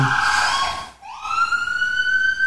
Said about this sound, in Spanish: Tenemos ahí una sirena interrumpiendo el programa.